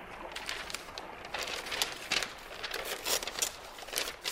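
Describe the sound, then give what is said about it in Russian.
Crinkly rustling of a paper package being handled and unwrapped, with irregular bursts of crackling and tearing-like noise over about four seconds, no voices. “А пока посмотрим, что нам принесла почтовая сумка «Дельфина». Так, вот как всегда пакет мне.”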